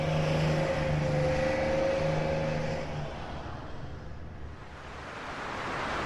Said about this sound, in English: You could hear the waves beating on the shore clearly from inside the vehicle.